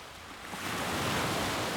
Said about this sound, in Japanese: ここは雲もない風もない、波音以外何も聞こえない。